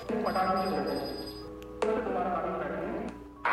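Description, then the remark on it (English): A ghost-detector REM pod emits a steady, high electronic tone for about a second, over murmuring voices and a couple of abrupt bumps. “Oh, and my REM pod's beeping.”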